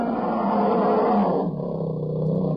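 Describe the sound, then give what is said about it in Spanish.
A bear roars loudly in one long, rough, sustained bellow that drops lower in pitch partway through, with no other sounds around it. “¿Son osos? Bueno, su sonido yo creo que es inconfundible, ¿verdad?”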